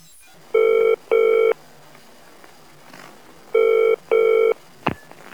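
A telephone ringback tone heard over the line: two double rings, each pair of short electronic buzzes, separated by a pause, clear and moderately loud, followed by a brief click.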